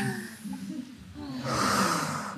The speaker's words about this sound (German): Ja, ich glaube, wir brauchen einen Pinguin, ganz, ganz dringend. Haben wir einen Pinguin? Ja, wir haben einen Pinguin.